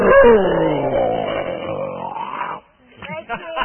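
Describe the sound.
A person imitates a lion's roar with a long, drawn-out growling voice that rises and falls, followed after a brief pause by a few short spoken sounds.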